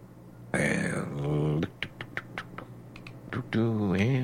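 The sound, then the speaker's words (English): A quick, irregular burst of computer keyboard typing, about a dozen sharp clicking keystrokes over a couple of seconds, set between stretches of a voice talking before and after. “And I'm fingering as fast as I can here.”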